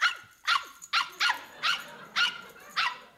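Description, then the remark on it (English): A female dog named Puff Puff barks seven times in quick, fairly steady succession, sharp yappy barks with no voices or other sounds around them. “Cute dog.”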